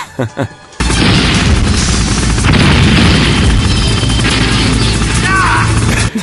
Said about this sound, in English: And cool my favorite thing about it, I didn't realize in the beginning that I wanted this from all the helicopter fights, is that the person in the helicopter you can hear audibly react to the missiles hitting it.